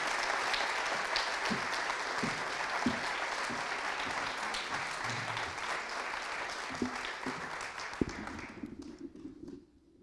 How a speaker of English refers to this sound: Let's make a huge round of applause as we welcome up this powerhouse